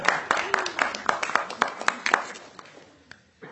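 A short burst of applause from a group at a legislative committee meeting, with many overlapping claps at first that thin out and fade over a few seconds, ending in a few scattered last claps.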